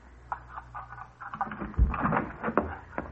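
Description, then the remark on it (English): A spare key, taken from a kitchen drawer, rattles and clicks in a door lock, then a dull thump as the door swings open, followed by a few scraping, clattering knocks. No voices are heard. “Now to open this door.”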